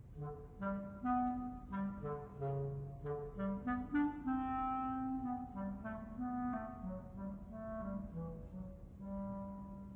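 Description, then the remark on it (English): A clarinet plays a smooth, winding melody in its low, mellow register, representing the cat in an orchestral story performed with the Grand Rapids Ballet, moving between held and shorter notes at a steady, fairly full volume, with no voices. “The cat by the clarinet.”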